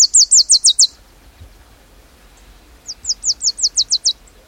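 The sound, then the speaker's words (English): A songbird sings on its nesting territory at its breeding grounds: two bursts of rapid, high-pitched repeated notes, each a quick series of about six to eight bright chirps, separated by a pause of quiet background. “When they arrive at their breeding grounds, they immediately begin to sing on nesting territories to attract mates.”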